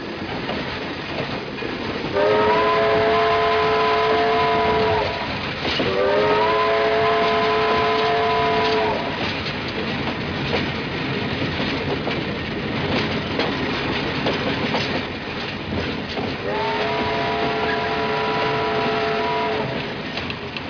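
The midnight train to Philadelphia pulls away with a steady rumbling clatter of wheels, its first stop Gary, Indiana, while a harmonic whistle blows in three sustained, loud blasts, with no voices.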